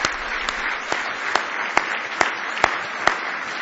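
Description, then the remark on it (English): An audience claps in praise of the Lord, a steady, dense wash of applause carried by a regular rhythmic beat of sharp, louder claps roughly twice per second. No one speaks over it. “Give Him a real big hand clap of praise if you love Him tonight.”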